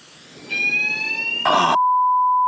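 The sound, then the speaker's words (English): A fire alarm, set off by someone spraying a lot of deodorant, rings with a loud, steady electronic tone, briefly broken by a harsh burst of noise before settling into one continuous piercing note. “What's that? It's a fire alarm.”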